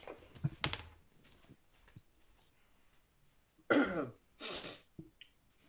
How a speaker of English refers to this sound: So, sorry, I did the same thing too because I don't know what's happening. I'm like a coughing fit. No, yeah, I've got a sore throat, or not a sore throat, but my mouth gets dry when I'm talking.